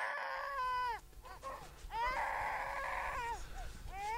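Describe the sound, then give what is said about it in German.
A young infant, only a few weeks old, wails during a diaper change in an apartment on the outskirts of Hamburg, in several strained, rising-and-falling loud bursts, with short gasping pauses between cries and faint rustling in the background. “Sein kleiner Sohn ist erst ein paar Wochen alt. Jean wechselt gerade die Windel.”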